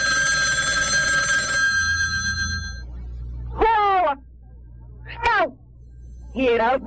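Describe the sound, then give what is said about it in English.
A telephone rings steadily for about three seconds, then stops; afterward a voice makes a few short, warbling, moan-like utterances. “Give me that phone, Stu. Hello? Yes, Doctor.”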